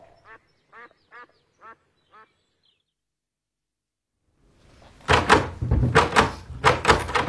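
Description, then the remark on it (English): A few short squeaky bursts, a pause, then a stuck door that doesn't open is yanked and rattled hard and loud in a series of heavy jolting thumps. “Not that door. It doesn't open.”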